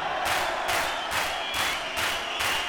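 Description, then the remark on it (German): A crowd claps hands together in a steady, unison rhythm, about six loud, broad claps roughly half a second apart, with a continuous wash of crowd noise underneath. “Und jetzt in die Hände klatschen!”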